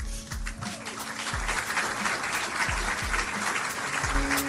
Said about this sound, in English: Listen to how silly the announcement sounds and the profuse applause after Trump says we've reached a deal.